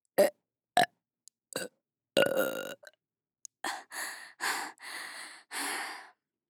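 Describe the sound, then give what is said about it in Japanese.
An uncontrolled run of burps: several short sharp ones, then a longer rumbling belch and a string of drawn-out burps in quick succession, with brief breathy pauses between and no talking. “このままゲップサポしてくれるなら有料いいですよ。”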